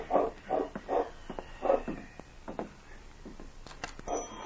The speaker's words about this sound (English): He was sure he had heard a dog bark. There's such a dog. Wonder if someone's coming.